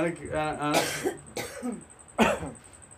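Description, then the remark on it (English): Three sharp, raspy coughs burst out about a second apart after a brief voiced sound, with a faint steady high-pitched whine running underneath. “Why are you guys coughing?”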